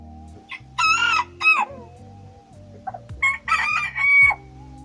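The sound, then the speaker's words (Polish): Two loud rooster crows ring out, each a strained, wavering call, separated by a short pause and set against a steady low rumbling background with no talking. “One są głośne i to pianie jest w takiej tonacji może nietypowej dla kur, więc to taka dodatkowa ich cecha.”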